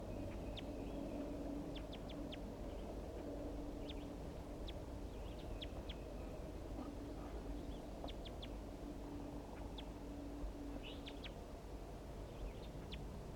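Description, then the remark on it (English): A wild male bird gives quick, high chitter notes in scattered bursts throughout, fairly faint, over a constant low background rumble, while being recorded. “I caught the female, and now I'm going to be recording chitter notes of the wild male.”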